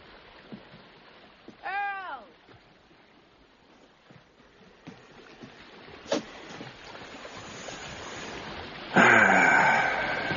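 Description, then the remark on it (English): Sea waves wash steadily in a continuous hiss, with a brief wailing cry early on and a louder rushing surge breaking near the end. No one speaks. “The sea is magnificent.”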